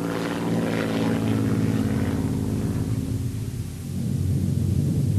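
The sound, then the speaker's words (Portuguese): The propeller engine of a Focke-Wulf FW-189 reconnaissance aircraft drones steadily in flight, a loud, continuous low rumble with a pulsing throb and a slight shift in pitch near the end, with no voices. “o Focke-Wulf FW-189 Coruja era usado para voos curtos de reconhecimento em estreita cooperação com forças terrestres.”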